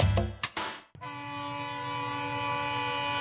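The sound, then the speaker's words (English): A freight train's horn blares in a long, steady chord after a few loud rumbling bursts of passing rail cars, with no one speaking. “When it's time to move your harvest, you need a rail partner you can trust. And at BNSF, we're more than just a railroad.”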